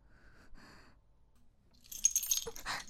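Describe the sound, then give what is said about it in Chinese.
After a near-silent stretch with faint rustling, the keys on an ordinary keychain jangle for about a second, a bright, loud metallic shaking that settles into a softer clink at the end. “你还给我，这就是一个普通的钥匙扣。”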